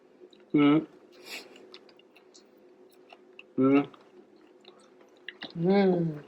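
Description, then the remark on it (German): Faint, sporadic crunching and clicking of someone biting and chewing chocolate during a blind tasting, broken up by three short, appreciative hummed vocal sounds. “Oh, du hast so viel Schokolade, das nehme ich. Hier kannst du mal abbeißen.”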